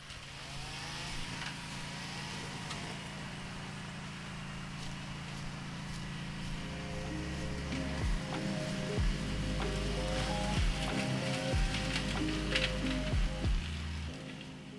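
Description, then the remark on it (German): Three volunteers' brush cutters drone steadily, their small engines buzzing continuously and then revving up and down in uneven bursts as they clear grass and young tree saplings from an overgrowing reptile habitat on a cloudy, hot 30-degree day in mid-August. “Alexander, Yannick und Benjamin sind vorbereitet und schnallen sich die Freischneider um. Lautstark helfen sie so”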